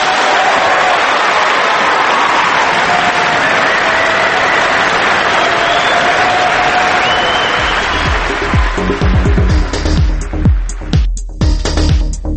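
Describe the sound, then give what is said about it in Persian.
An audience applauds loudly and steadily, a dense wash of clapping that runs throughout, growing more uneven with distinct individual claps near the end. “اصلا هیچ حرف اضافه‌ای هم نداریم بزنیم، فقط میگیم آقا به افتخارش.”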